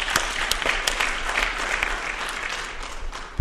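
An audience applauds steadily, a dense, bright wash of many hands clapping with scattered sharper claps standing out, sustained at an even level for the whole few seconds with no voices.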